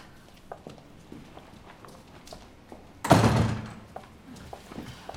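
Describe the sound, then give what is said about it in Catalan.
The front door of a house opens with a single solid thunk and a brief rattle, loud, with a few faint footsteps and small clicks before and after. “La Gina va cap a la porta de casa.”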